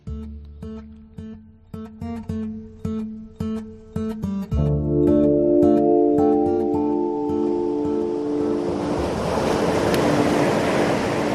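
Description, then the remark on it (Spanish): Rushing wind and churning sea water on the Mediterranean Sea, 2 kilometres off the coast of Oropesa in Castellón, Spain, build into a loud, steady roar, following a few seconds of rhythmic tonal pulses and a low droning hum; no voices. “Estamos a 2 kilómetros de la costa de Oropesa, en Castellón, en pleno mar Mediterráneo.”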